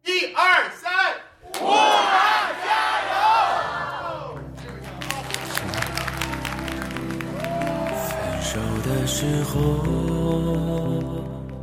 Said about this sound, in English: That chant there, Stay Strong Wuhan. We spoke with … at a fundraiser for Wuhan, the city in quarantine in China.